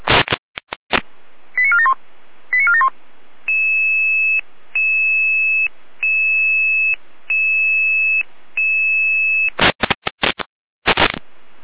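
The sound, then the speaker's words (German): Electronic fire brigade dispatch alarm tones for the Saalfeld-Rudolstadt fire service, called out to a triggered home smoke detector: bursts of static and quick tone chirps, then a steady run of five evenly spaced two-tone beeps, ending with loud static bursts, no voices. “Leitschwein Alarmruf.”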